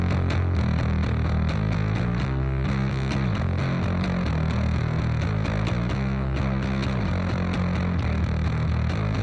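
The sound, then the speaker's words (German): A heavily distorted bass line plays alone, thick and gritty, with a steady rhythmic pulse of low notes that shift pitch in short riffs, loud and saturated throughout. “Und jetzt hören wir mal in die Basslinie von dem Song rein.”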